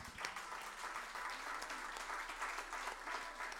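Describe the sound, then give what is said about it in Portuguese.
An audience claps steadily for the sound engineer, a dense wash of many hands with no pauses, sustained and fairly loud across the whole stretch, with no voices standing out. “Um grande aplauso para ele.”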